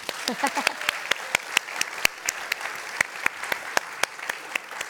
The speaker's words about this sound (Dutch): We doen nog een applaus.